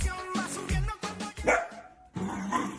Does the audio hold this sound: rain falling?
no